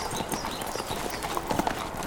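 Horse hooves clip-clop in a steady, brisk rhythm as a rider rides away, the clattering beats continuing evenly throughout with a faint outdoor background.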